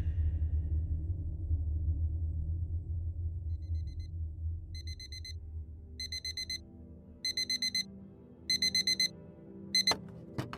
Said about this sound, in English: I sprang out of bed as the alarm rang at the crack of dawn.